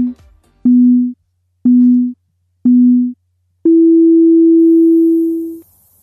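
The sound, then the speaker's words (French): Three short, identical electronic beeps at a steady one-second interval, followed by a longer, slightly higher-pitched tone that holds for about two seconds, signalling the start of a 90-second timed answer. “Tu as 90 secondes après le bip.”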